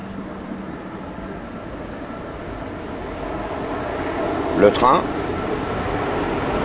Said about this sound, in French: Le train qui passe.